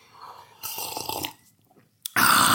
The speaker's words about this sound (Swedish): Nu måste jag ta en klunk kaffe här och försöka andas mellan varmen också. Vi testar att göra det samtidigt då.